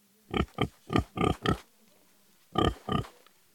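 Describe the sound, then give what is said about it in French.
Pigs grunt and oink, a quick run of five short snorting grunts, a brief pause, then two more, loud and clear with no talking. “Ensuite, ils rencontrèrent un albatros qui les emmène sur une île étrange, surnommée l'île des cochons.”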